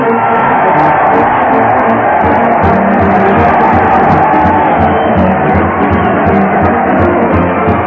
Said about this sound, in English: Yes, sir, listen to that crowd cheering Fred Allen as he heads his weekly parade to the old Town Hall.